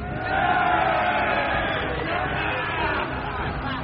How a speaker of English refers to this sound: Don't cheer too loud. They still outnumber us 1,000 to 1.